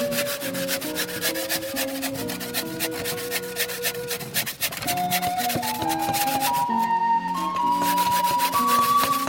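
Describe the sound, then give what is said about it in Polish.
A hand saw rasps through wood in quick, steady back-and-forth strokes, fairly loud, continuing without pause over a sustained tonal background. “Można jeszcze trochę piłą podpracować.”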